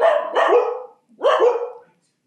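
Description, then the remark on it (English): Dogs bark in two loud bursts, the first a quick double woof and the second a single full bark, separated by a brief pause with no talking. “And a couple of dogs.”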